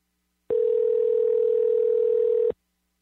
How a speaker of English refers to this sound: We got phones ringing and everything.